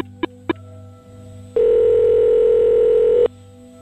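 Two quick clicks, then a single long, steady ringback tone on a phone line, the ringing of an outgoing call to a man in Miami found in an online phone book, loud and alone over a faint line hum.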